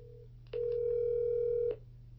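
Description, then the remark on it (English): A steady, mid-pitched telephone dial tone sounds alone for about a second and then cuts off, preceded by a fainter brief dialing tone, over a constant low hum, as a phone call is being placed. “I'm going to make the call.”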